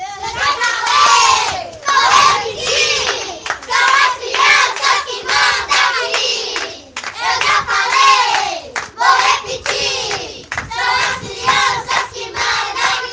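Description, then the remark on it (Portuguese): A group of children aged about 5 to 8 shouts a rhythmic team battle cry in unison at a gincana of the Projeto de Vida games, loud, with repeated bursts of voices punctuated by claps and cheering. “Então agora vocês vão ouvir o grito de guerra dessa criançada.”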